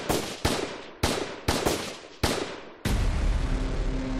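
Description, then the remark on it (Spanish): A rapid series of about seven loud, sharp gunshots fires at uneven intervals, each cracking and ringing out before the next, ending in a sustained rumbling noise, as a man is shot repeatedly in Chile. “Le dispararon 43 veces seguidas.”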